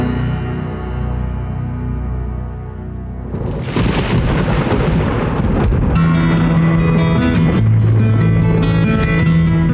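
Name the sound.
thunderstorm with rolling thunder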